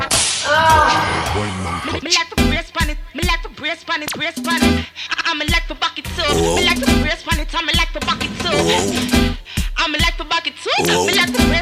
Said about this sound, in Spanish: Ahí, métele su latigazo.